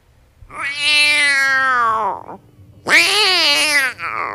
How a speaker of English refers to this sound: What a cat.